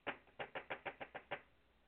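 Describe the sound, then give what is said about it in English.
A quick run of about eight knocks on a hard surface, evenly spaced and fairly crisp, followed by a short silence; no one speaks. “Knock if women don't know shit about sports.”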